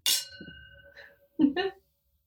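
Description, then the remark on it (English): Glasses of alcohol clink together once in a sharp, bright toast, leaving a clear ringing tone that fades over about a second, followed by a brief murmur of voice. “Thank you. Cheers.”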